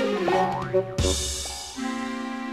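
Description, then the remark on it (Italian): Springy cartoon boings with warbling, pitch-bending tones, a sharp thump near the middle, then a steady wobbling twang that fades, as Tigger (Tigro) bounces away down the street. No talking. “E se ne andò saltellando giù per la strada.”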